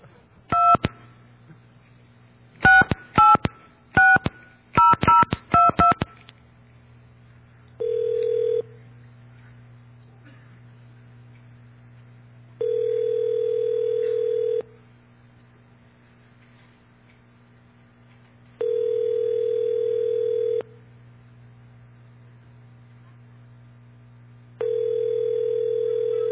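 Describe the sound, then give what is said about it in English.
A burst of quick telephone keypad tones in several rapid clusters as someone dials a Blockbuster video store on 34th Street, then the line rings with long, evenly spaced ringback tones about every six seconds over a low steady hum. “So I'm going to get angry now, and I'm going to make a phone call to a video store, and let's see if they'll give me information they shouldn't give me.”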